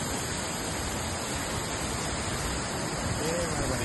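The swollen Guadalete river rushes through the village of Grazalema, overflowing at red alert level after nearly 600 litres per square metre of rain in 24 hours, in a loud, steady roar of churning water, a dense unbroken wash of sound that holds constant throughout.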